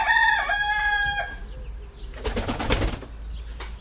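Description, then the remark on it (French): Hens returning home cluck, opening with a drawn-out, tonal call, then a brief burst of scratchy, rustling clucks and flutter, all with no one talking. “Il y a les poules qui rentrent à la maison.”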